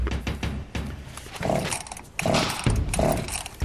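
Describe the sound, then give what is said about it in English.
A small junkyard engine is cranked but fails to start, with repeated loud rasping bursts and a sputtering mechanical whine, the attempts coming in an uneven rhythm. “You hear that? It doesn't start. It's alive!”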